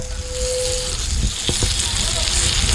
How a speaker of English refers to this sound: Paul Bell Chambers is cooking some chicken. I can see it's sizzling in the pan from here